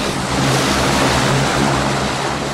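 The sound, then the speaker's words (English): A twin-propeller turboprop plane bound for Boston roars loudly and steadily as the pilot starts its engine, a dense rushing drone with a low throbbing hum underneath that fills the whole moment without letup. “The pilot climbs aboard, starts the engine, and sends a deafening noise through the air.”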